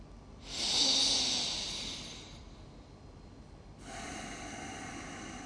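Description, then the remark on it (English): A slow, deep breath drawn in for about two seconds, a brief pause, then a long, steady, airy exhale. No one speaks. “And as I breathe out, I let go of the desire to smoke.”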